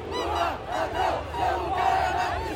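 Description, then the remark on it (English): A large crowd of Bolsonaro supporters by the military fort at the end of Copacabana Beach, Brazil, at the 200th anniversary of independence celebration, shouts in unison "Lula, thief, your place is in prison," voices rising and falling in rhythmic swells over a steady low rumble, loud and continuous throughout. “Now they're shouting, "Lula, thief, your place is in prison."”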